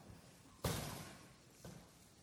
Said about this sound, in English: do you mind shutting the glass so that I don't blow? My microphone blows in the wind.